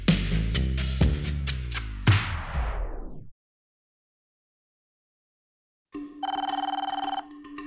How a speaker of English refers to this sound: The phone rang one day, just before they opened, and it was the curator.